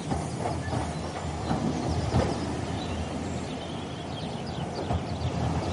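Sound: train pulling into station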